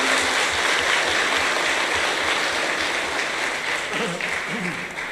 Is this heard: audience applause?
yes